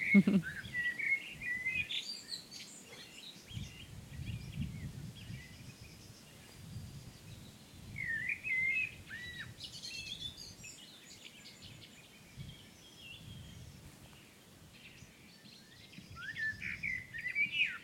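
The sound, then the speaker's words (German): A dawn chorus of many birds, including thrushes and three to four singing blackbirds, sings steadily, broken by a few sharp bursts of blackbird alarm calls near the start, middle and end, with no talking. “Und man hört auch ab und zu mal so Warnrufe von Amseln, die dann so zwischen dem Konzert sind.”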